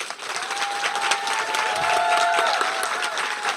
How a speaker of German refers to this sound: Wir sind hier im Klostergarten und haben einige Gäste mit. Und vielleicht können wir es ja mal probieren. Wenn Sie einen großen Applaus geben, sollte das wahrscheinlich dann auch zu hören sein.